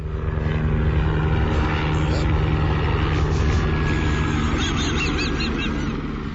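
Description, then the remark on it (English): A steady, loud mechanical drone of a helicopter flying overhead fills the scene with a dense low rumble, while faint honking bird calls and chirps rise above it near the end. “And here comes a helicopter overhead.”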